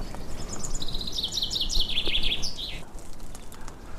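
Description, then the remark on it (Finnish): A chaffinch perched on an oak branch in the oak grove at Ruissalo, Turku, Finland, sings one clear song phrase, a bright descending run of notes ending in a quick flourish, against a steady outdoor background hiss. “Peippo siellä on. Joo. Tammen oksalla istuu.”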